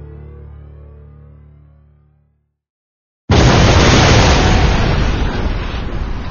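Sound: bomb explosion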